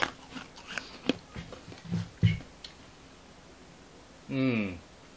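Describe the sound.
Crunchy chewing of hard papaya tablets, with a run of irregular clicks and crunches that fades out, followed after a pause by a short voiced hum.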